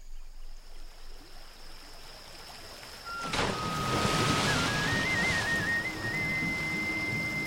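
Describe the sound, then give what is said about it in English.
Rushing, churning river water, becoming a whirlpool and then dropping to a great depth, roars steadily and swells louder partway through, while a thin whistling tone slides upward and wavers above the turbulent noise. No one speaks. “The river becomes a churning whirlpool and then drops to a dizzying depth.”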